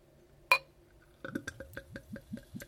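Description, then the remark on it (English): Fizzy lemonade poured from a screw-top bottle into a glass: a sharp clink of bottle against glass, then a steady run of rhythmic glugs as the liquid gurgles out and fills it. No talking. “Let's go pour some of it out. Quite fizzy.”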